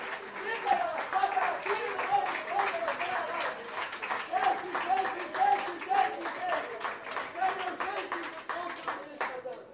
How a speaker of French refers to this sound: Allons le Seigneur ensemble. Applaudissons l'œuvre du Seigneur. Alléluia.